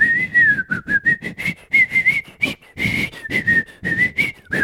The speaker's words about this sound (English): I can't whistle that song. We're going to stop.